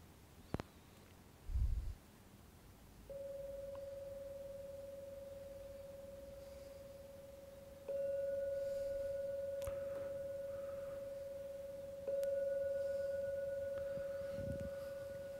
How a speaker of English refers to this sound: I'm now going to ring the gong 3 times as usual. When the last ringing of the gong begins to fade away, that's a signal to come out from the meditation.